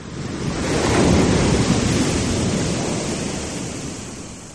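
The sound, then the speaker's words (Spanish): Giant waves crash onto a northern beach in a continuous, thundering roar of surf that swells to a peak and then slowly recedes, loud, with no voices. “El sonido de las olas gigantes rompiendo en la playa del norte. Su estruendo es algo espectacular.”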